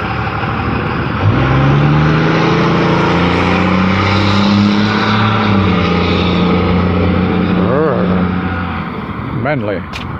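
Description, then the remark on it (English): A truck engine rumbles loudly and steadily, its pitch rising into a sustained rev before dropping back, followed by a couple of short, wavering revving bursts near the end. “A manly truck.”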